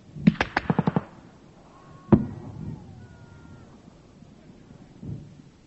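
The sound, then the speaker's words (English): Incoming artillery fire from Argentine batteries around Stanley landing close by British troops: a quick rattle of sharp cracking blasts, then one heavy bang a moment later, and a duller, softer thud near the end. “More incoming gunfire from Argentine batteries around Stanley, keeping everybody's heads down.”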